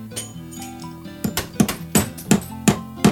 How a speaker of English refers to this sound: I loaded up my soundboard with a bunch of sound effects of construction, hammering and sawing. Like, I have this one, got hammering sounds, got that hammering, which is breaking glass as he hammers.